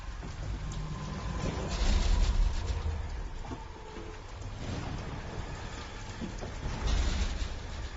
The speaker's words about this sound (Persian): سمت پنجره ها نرو، طوفان شدیده.